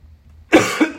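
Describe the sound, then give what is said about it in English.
A single sharp cough from a person pausing mid-talk bursts out loudly after a moment of near silence, with a second rasping push at the tail end as it trails off. “Excuse me, I had to cough there for a second.”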